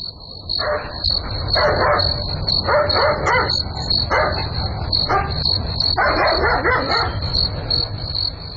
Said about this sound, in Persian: چیز معلوم نمیشه، نمیفهم که سگ چرا میجفه، حتما کدام گپ خو است.